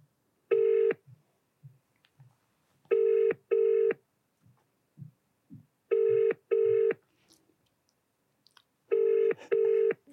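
A telephone ringing tone heard down the line during a call to a Domino's pizza shop in Whitford: one short ring, then three double rings at a steady pace, clear and fairly loud, with faint clicks and rustles between them and no talking.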